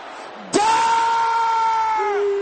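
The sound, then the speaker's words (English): A loud, sustained shout bursts out suddenly after a brief murmur and is held at high pitch for nearly two seconds, an audience crying out together in prayer. “Can I hear you shouting this loud?”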